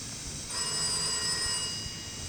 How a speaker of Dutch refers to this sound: Zal ik nemen? Het is waarschijnlijk voor mij. Telefoon, hè?